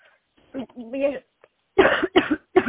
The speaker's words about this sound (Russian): Вы что, кашляете?